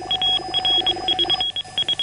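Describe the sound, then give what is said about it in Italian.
Short, high electronic beeps tapped out in quick rhythmic clusters of three Morse code dots, the letter S, repeating clear and steady over a faint hum, with no voices. “Alle 12:30, mentre ero in ascolto al telefono del ricevitore, ecco giungere al mio orecchio, debolmente, ma con tale chiarezza da non lasciare adito a dubbi, una successione ritmica dei tre punti corrispondenti alla lettera S dell'alfabeto Morse.”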